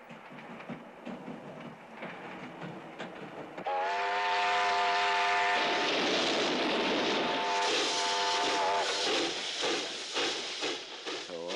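A train rumbles along loudly, with a sustained whistle blaring for several seconds over the steady roar and rattle of the carriages, after a quieter stretch of rolling noise.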